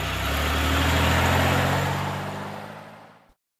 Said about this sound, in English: Come on, get going. I've got the car going now.